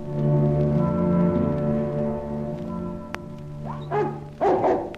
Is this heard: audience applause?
no